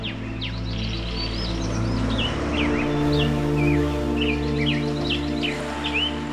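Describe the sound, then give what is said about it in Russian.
Birds sing continuously with quick chirps and warbling phrases over a steady rustle of leaves in the wind and a low ambient hum, an outdoor nature scene away from the city with no one talking. “Шумит улица, шумит заводской цех, а вдали от города шумит природа ветром и листьями, пением птиц, дождем в траве, морским прибоем.”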